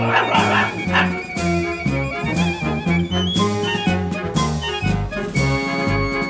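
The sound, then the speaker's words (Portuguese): A small dog named Lulu barks repeatedly in short bursts, mixed into a loud marching band arriving and playing a steady, rhythmic tune that dominates throughout. “Ora, Lulu, pare de latir.”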